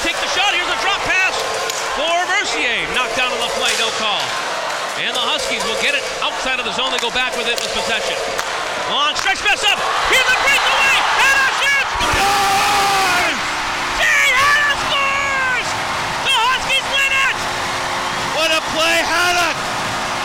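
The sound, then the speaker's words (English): An arena crowd cheers wildly after an overtime goal wins the game for the Huskies, a loud, continuous roar full of whoops and shouted voices, swelling even louder about halfway through and staying intense to the end. “This place is going nuts. Listen to this.”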